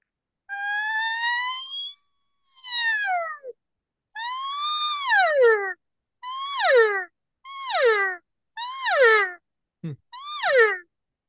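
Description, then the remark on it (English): A cow call blown on a reed call, air hissed through the reed and a long siren note shortened into quick up-and-down notes to make a cow sound: a string of about seven nasal, mewing notes, the first ones drawn out and falling, the rest shorter rising-and-falling chirps, loud and alone with no talking. “Just start shortening it up and you'll get more into your cow sound.”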